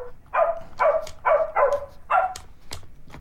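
A circuit-bent Baby Einstein baby toy piano plays a synthetic dog bark, repeating five times in a quick, steady rhythm, fairly loud, with sharp clicks between and after the barks.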